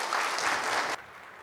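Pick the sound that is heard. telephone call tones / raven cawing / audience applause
audience applause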